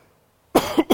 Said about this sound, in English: And I apologize, I'm going to cough some as I go because I've been sick for most of the week.